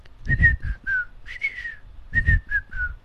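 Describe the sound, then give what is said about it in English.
A person whistles an imitation of a bird call: two phrases of short, clear notes that slide slightly downward, the first phrase ending in a longer note, repeated after a brief pause. “There's a bird which goes.”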